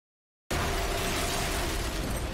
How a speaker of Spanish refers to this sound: Una serie de explosiones desgarra la ciudad de Nueva York.